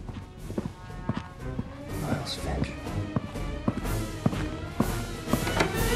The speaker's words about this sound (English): The next morning at Greenway Press, the lift doors seem to mysteriously open and close. Eyes follow the footsteps down the corridor.